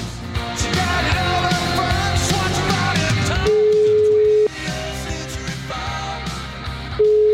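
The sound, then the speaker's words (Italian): An outgoing phone call's ringback tone, a call to a Lega party official: a steady one-second beep, a pause of several seconds, then the next beep starting, all over busy background music and noise. “Io proverei a fargli una piccola telefonatina, sì.”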